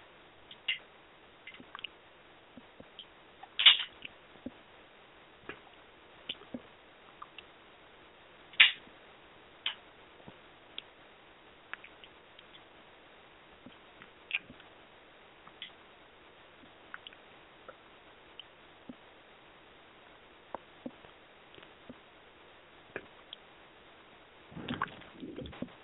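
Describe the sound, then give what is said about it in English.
Rain that has just started, tapping on a car and heard from inside it, as scattered, irregular ticks and light knocks with a few sharper, louder hits and a brief burst near the end; no one speaks. “It just started raining here. I don't know if you guys can hear it.”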